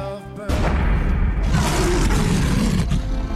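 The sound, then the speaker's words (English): A lion lets out a deep, powerful roar, a loud sustained rumbling growl that swells after a brief tonal lead-in and fills the whole clip before tapering off. “When a lion roars, it's declaring its lordship over its territory.”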